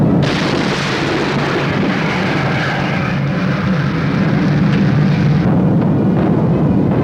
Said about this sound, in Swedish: Ett allierat plan träffas här av luftvärnseld och krossas i ett hav av flammor.